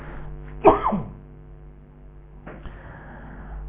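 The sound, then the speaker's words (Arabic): A single sharp cough bursts out near the start, followed by a brief rasp, then a quieter breathy noise later against a steady low hum, with no talking. “انا ما كنت بكح بس فيه يا جماعة، بكح والله.”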